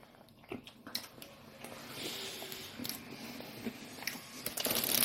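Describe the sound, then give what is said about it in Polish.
Someone chewing a chicken baguette sandwich from Żabka, with a steady run of crunchy, crackly bites and wet mastication that grows louder toward the end, no talking. “Taki typowy, sztuczny kurczaczek z każdej bagietki z żabki.”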